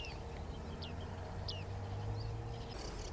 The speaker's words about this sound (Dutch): En ik hoorde net een baardmannetje.